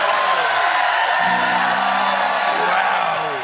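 A studio audience on Stephen Colbert's show breaks into loud, sustained applause when the applause sign goes off after a Nelson Mandela joke. A dense wash of clapping holds steady for several seconds, with a few whoops and shouts rising above it.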